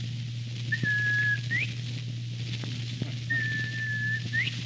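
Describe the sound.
A person whistles a bobwhite quail call twice, each a steady high note ending in a sharp upward swoop, over a constant low hum with no talking.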